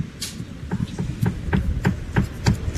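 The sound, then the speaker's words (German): Knocking on the wooden front door of a house: about eight dull, hollow raps in a steady, slightly uneven rhythm, moderately loud, with no voices. “Komm, wir klopfen mal.”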